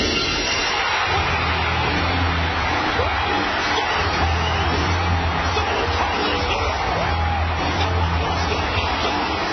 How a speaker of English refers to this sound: Stone Cold Steve Austin, that glass shattering hits. Listen to this crowd go crazy.